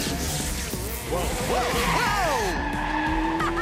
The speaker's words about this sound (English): The Whoosh spins around on the track. He stomps on the brakes and skids across the grass.